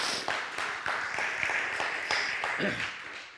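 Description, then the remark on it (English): A church audience claps steadily during a sermon for a few seconds, a dense, even wash of many hands with sharper individual claps popping through; a brief vocal sound rises near the end. “Give him a hand clap.”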